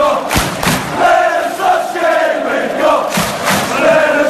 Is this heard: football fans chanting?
yes